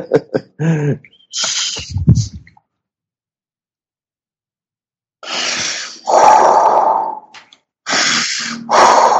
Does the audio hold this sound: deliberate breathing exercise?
yes